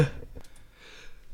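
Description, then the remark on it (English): A single sharp sneeze bursts out at the very start, then fades into quiet room tone with faint rustling. “excuse me, God bless me.”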